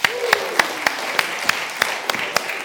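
An audience applauds, with a few sharp, evenly spaced claps standing out over a dense wash of clapping. It's moderately loud and close, with a faint vocal sound near the start.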